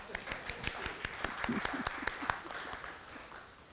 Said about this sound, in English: We couldn't have a handshake, but we felt we might be allowed a small clap.